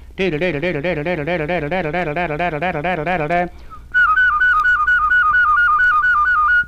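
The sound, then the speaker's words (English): A voice steadily produces low, buzzy, rapidly alternating double notes for about three seconds. After a brief pause, a clear, higher whistled trill warbles evenly until the end. “You might do this with your voice to get the low double notes too.”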